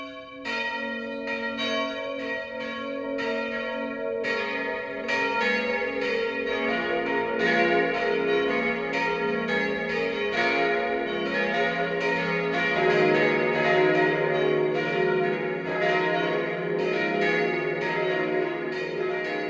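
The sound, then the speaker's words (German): Church bells of the Pfarrkirche Maria Immaculata in Walda, a district of Ehekirchen in Landkreis Neuburg-Schrobenhausen, Upper Bavaria, ring a steady noon peal, several bells overlapping in a continuous, rich clangor with lingering hum, loud and sustained throughout with no voices. “Das Mittagsläuten kommt heute von der Pfarrkirche Maria Immaculata im oberbayerischen Walda.”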